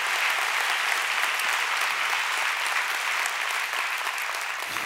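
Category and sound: crowd, audience applause and cheering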